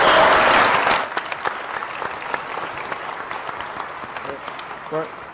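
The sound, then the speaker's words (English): A crowd applauds loudly, a dense wash of many hands clapping at once that swells at the start, then thins into scattered claps as a voice begins speaking over it. “the only suggestion to everyone here, all of you clapping, join the march on Saturday.”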